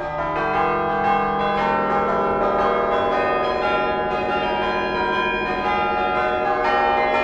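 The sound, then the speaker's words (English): Tuned university chime bells play a lilting Irish folk melody, their ringing notes overlapping and sustaining into a rich, continuous wash at a steady, fairly loud level, with no voices present. “I recorded my signature song, the one that I play the most, which is an Irish folk song called Off to California.”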